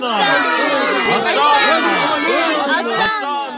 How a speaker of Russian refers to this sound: Дорога, по которой я шел, была устлана одеждой и пальмовыми ветвями. Интересно, и для чего, и кто это делал? Это делали взрослые и дети, которые стояли по краям дороги и громко восклицали.